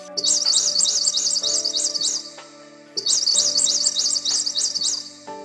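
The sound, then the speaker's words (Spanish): A baby blue tanager calls to its mother from its nest, chirping in two long runs of rapid, high, wavering peeps, each lasting about two seconds with a short pause between, over a steady low humming tone. “Era un pichoncito de azulejo que le decía a su mamá: mira, mamá, una estrella se ha posado en la rama arriba de nuestro nido.”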